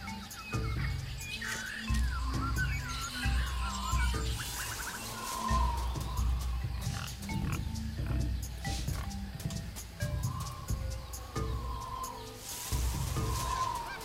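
Low, rough grunts from a wild boar repeat steadily through a busy jungle soundscape, with bird calls and chirps layered above a constant dense background of animal noise.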